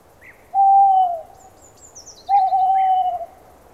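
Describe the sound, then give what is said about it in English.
Two long, steady owl hoots, each held for about a second with a slight drop at the end, separated by a pause, with faint higher bird chirps in the background. “Look! An owl!”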